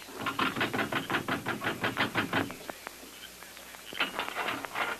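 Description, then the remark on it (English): A quick run of sharp, even knocks on a jail door, about a dozen in a steady burst, then a short pause before another brief flurry of knocking. “Get up those steps and knock on the door.”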